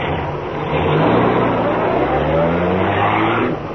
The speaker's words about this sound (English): Well, look. Car coming fast.